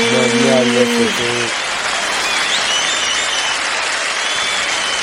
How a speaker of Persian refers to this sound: بسیار هم خوب، تشویقشون کنین، صدا بردار.